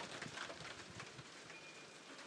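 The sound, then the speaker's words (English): Steady, dense rain drums on the taut cover of a garden seat during a thunderstorm, a continuous hiss of fine pattering with scattered sharper drops throughout and no voices. “That rain is hitting my cover of my garden seat. That's why it sounds loud.”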